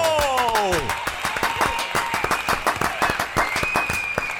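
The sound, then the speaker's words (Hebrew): A crowd bursts into sustained applause for Yeshivat Kovna, dense rapid clapping filling the space for several seconds, with shouts and cheering voices mixed in and a sliding whistle-like cry at the start. “אז איפה המחיאות כפיים?”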